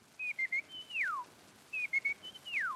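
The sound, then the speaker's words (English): A person whistles an imitation of a California quail call, twice: a few short clipped notes followed by a long descending slur, clear and moderately loud with no talking. “To have it through some media is actually less wonderful and less amazing than to see a human being with the sound of a bird coming out of plump them. Little California quail.”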